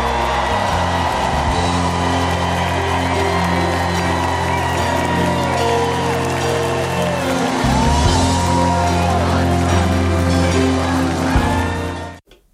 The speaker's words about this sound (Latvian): tērpie zilā uzvalkā un ar nelielu baltu apsēju uz auss uz skatuves viņš tika sagaidīts ar varoņu cienīgām ovācijām. Ilgām paklausīsimies nedaudz, kāda bija tā atmosfēra. Donald J. Trump.